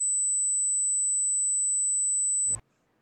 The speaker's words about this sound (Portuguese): Conseguiu ouvir? Foi um zumbido a 8 kHz. Eu também ouvi. Esse som está bem no final do nosso limiar de audição, que pega sons com frequências de 20 a 20 mil Hz.